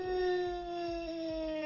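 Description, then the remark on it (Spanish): A long, eerie dog howl, a creepy bark, holds a steady drawn-out tone throughout, with low rhythmic thumps pulsing underneath, moderately loud with no talking. “Ladrido espeluznante.”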